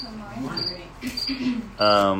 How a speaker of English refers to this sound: Yeah, those crickets will probably be on this recording. They were last week. We're waiting for AI to learn the cricket sounds so that we can filter it out.